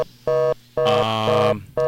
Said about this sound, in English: Hello. A loud dial tone. Can you hear me? Yes, we can hear you, and we're trying to fix the dial tone.